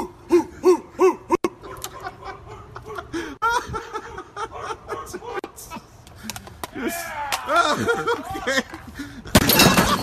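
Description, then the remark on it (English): A rowdy crowd in Buffalo whoops, hoots and cheers for several seconds, then a sudden loud splintering crash bursts out at the very end as a man slams himself through a table. “Slamming himself through a table or shotgunning a Bud Heavy?”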